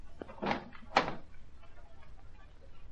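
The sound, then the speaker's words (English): A front door opens with two quick clunks about half a second apart, a latch and handle rattle, then only faint room hiss remains. “Come on in, old man. The front door isn't locked.”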